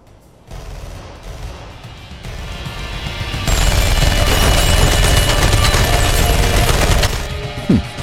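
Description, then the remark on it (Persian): A sustained barrage of rapid gunfire, building from a rumbling volley into a loud, dense burst of shots that continues for several seconds before tapering off with a final heavy impact. “با این که میدونی هیچ فایده ای نداره بازم شلیک.”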